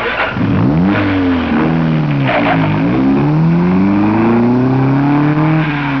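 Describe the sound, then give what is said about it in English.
A car engine turns over and revs loudly, its pitch climbing, dipping and surging again in several throttle bursts, with no voices. It is David Brinkley's car, started as he gets in it outside the NBC building. “David Brinkley speaks first as he gets in his car and says...”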